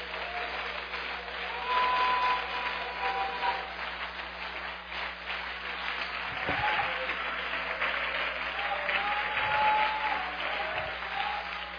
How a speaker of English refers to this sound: Come on. Come on. Come on. Let's clap our hands and praise Him today.